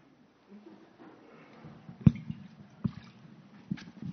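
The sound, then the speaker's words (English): Water from the Atlantic Ocean, taken 10 miles off the coast of Portsmouth, New Hampshire, is poured into a bowl, a soft continuous trickle broken by a few sharper splashes and drips, fairly quiet, with no talking. “This water is from the Atlantic Ocean, 10 miles out off the coast of Portsmouth, New Hampshire, where I went to Star Island with two of my oldest grandsons.”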